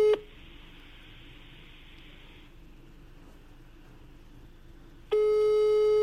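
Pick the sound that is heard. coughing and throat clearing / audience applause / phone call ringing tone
phone call ringing tone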